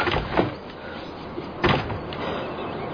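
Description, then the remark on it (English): A door swings closed with a solid thud partway through, preceded by a softer knock, against a steady background hum. No one speaks. “You shouldn't have closed the door.”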